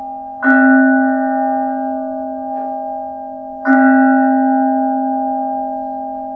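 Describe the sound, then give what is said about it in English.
A bell rings twice, about three seconds apart, each strike sharp and bright with a long humming decay that carries on between strokes. It sounds fairly loud, with no voices. “For whom the bell tolls. The bell tolls for thee.”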